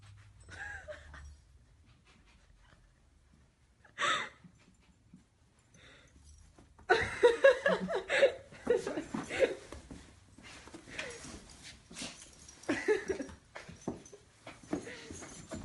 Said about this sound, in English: This dog's got a little chew toy that's a Gumby. And he's gnawing on the Gumby.